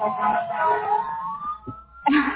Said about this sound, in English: Okay. I'm sorry. The fire engine is going by.